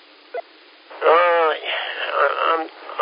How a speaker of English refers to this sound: I'm telling you, it's just terrible. Static, maybe an S1 signal, lots of, QRS and QRM.